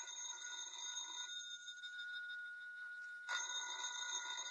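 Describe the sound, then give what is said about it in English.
A telephone bell rings continuously, a steady metallic trill that shifts slightly in tone midway and never pauses. No one speaks over it. “Well, ain't you gonna answer the phone?”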